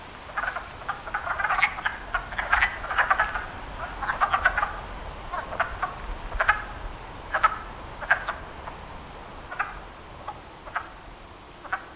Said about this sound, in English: Now, the wood frogs will be quiet for a little while because they can hear us coming and they get a little nervous. But I bet if we stand over there quietly for a minute, the sound of the wood frogs will start to pick up again. Let's see.